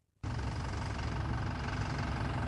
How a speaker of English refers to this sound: Humming through the streets of Mimalee in South Australia's APY lands, this bus heralds the start of a football experience with a difference.